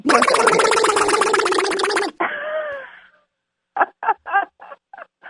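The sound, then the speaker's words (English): A voice imitates Donald Duck being churned in a blender: two seconds of loud, wet, gargling squawks, a brief strained quack, then a few short choppy vocal bursts. “You know, I can do Donald Duck in a blender.”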